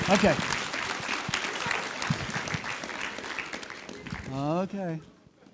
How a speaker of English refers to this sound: Would you give a round of applause to these young ladies?